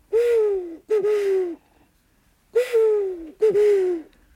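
Four loud owl-like hoots in two pairs, each a breathy, slightly falling tone, a human voice imitating an owl's call, with short silent gaps between pairs and no talking.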